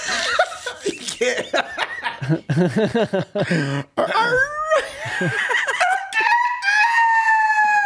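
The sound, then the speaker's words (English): A man's voice imitates a rooster crow, a loud, strained cock-a-doodle-doo with a long rising and held final note, preceded by laughter and chuckling from other people. “So I mean, it's just can you do a rooster crow?”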